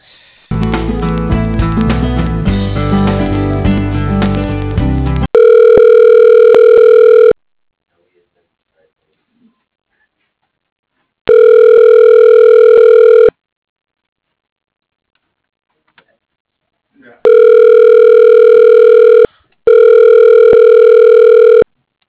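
A phone call ringing on the line: after a brief burst of dense musical tones, four long, steady, mid-pitched rings sound, each about two seconds, separated by stretches of silence.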